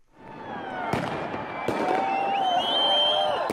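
A New Year's Eve crowd in Cologne, Germany, roars steadily in the area between the city's historic cathedral and main train station while fireworks go off, with two sharp, loud bangs and high whistling rockets streaking upward; the din swells louder toward the end.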